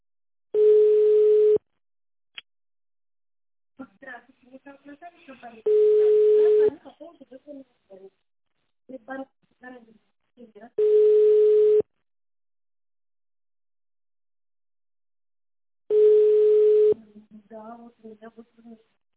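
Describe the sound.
A telephone ringing tone buzzes four times as a caller phones a company, each steady one-second beep followed by a pause of several seconds, while a person talks quietly in the gaps between rings.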